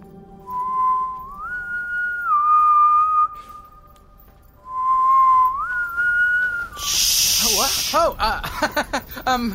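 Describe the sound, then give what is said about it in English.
A catchy tune hummed in a thin, pure, whistle-like tone: two short rising-and-falling phrases with a pause between, then a loud burst of hiss and a brief voice. “There it is again, the hum.”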